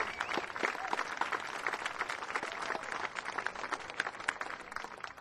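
A crowd at Peoria Zoo applauds steadily, dense overlapping claps forming a continuous bright wash throughout, moderately loud, with no one speaking over it.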